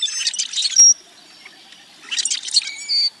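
A rusty blackbird's song rings out twice: each phrase is a bubbling, gurgling jumble followed by a thin, high, metallic, creaky squeak like a rusty hinge, clear with a short pause between.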